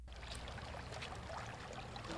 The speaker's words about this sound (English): is stirring up the rocks in the river, hoping that nymphs under the rocks will be flushed into a screen he holds downstream